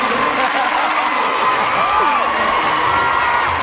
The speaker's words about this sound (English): All right, here we go. Ready, go. Clap. All right, there you go.